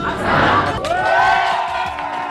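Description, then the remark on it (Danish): The murmur of Macron supporters gathered in a café in Paris, just before 8 on a Sunday evening as the first presidential election exit polls arrive, erupts into loud cheering partway through, with many voices whooping and shouting together in a sustained roar that holds steady to the end. “Valgstederne er ved at lukke, de første exit-målinger er på vej, cafégæsterne tæller ned, og så bryder jublen løs.”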